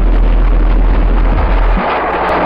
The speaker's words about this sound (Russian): Все готово к испытаниям. До взрыва осталось 3 секунды. 2 секунды. 1 секунда. Взрыв.